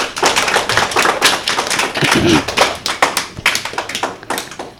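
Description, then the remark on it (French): An audience applauds steadily for several seconds, a dense wash of clapping hands with sharp individual claps standing out, loud throughout with no one speaking. “On peut les applaudir !”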